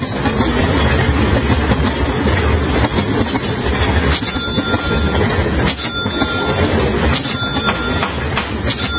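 A CSX freight train rumbles steadily along the rails, loud, with a dense low roar, rhythmic clacking of wheels over joints and occasional metallic squeals, with no voices.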